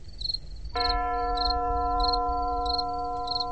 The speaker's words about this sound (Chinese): 听见了远处传来的隐隐约约的钟声，不知是教堂的钟声，还是自己的幻觉。